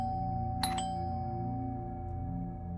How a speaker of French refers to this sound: Le son familier a résonné dans les haut-parleurs de mon téléphone portable. Dans la vidéo, personne n'est venu à la porte. Ils ont commencé à appuyer sur la sonnette encore et encore, plus vite, et plus vite, et encore plus vite.